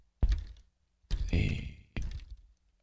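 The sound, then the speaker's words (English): Three heavy clacks of a computer keyboard that is acting up, each a thumpy strike with a short rattling tail, spaced out irregularly with no talking. “This keyboard is acting up again.”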